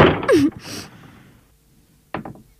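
door being closed

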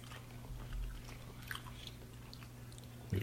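chewing candy

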